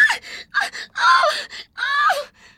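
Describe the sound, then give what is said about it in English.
A woman shrieks in fright at a mouse and drops her violin, four sharp, high-pitched vocal bursts in quick succession, the longer middle and final cries wavering and falling in pitch, with no talking. “She screams and drops her violin.”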